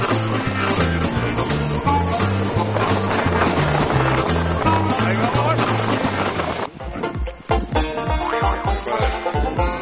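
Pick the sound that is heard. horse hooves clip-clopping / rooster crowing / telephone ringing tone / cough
horse hooves clip-clopping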